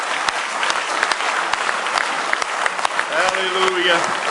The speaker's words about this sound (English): Let's give Him one more good hand clap of praise this morning.